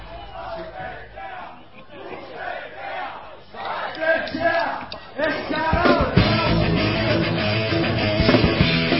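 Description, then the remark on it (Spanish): On a live concert recording, the crowd shouts together in Basque in a loud, rough chant, the voices building and growing denser and louder toward the end over a thick wash of noise. “grabado en directo, con un bonito grito que haríamos nosotros propios si no fuera en euskera.”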